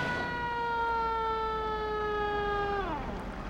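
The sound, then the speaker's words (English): A police car siren with a flashing red light, as a patrol car pulls a driver over on a highway, holds a loud, steady, harmonic-rich tone for nearly three seconds, then slides downward in pitch as it winds down, over a low rumble of road noise. “A flashing red light appears in her rear windshield. Pull over, please.”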